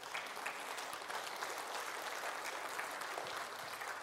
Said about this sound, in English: 98 people in Apopka had something to eat on Friday because just 5 of our folks went out. Isn't that awesome? Where's the applause for that, people?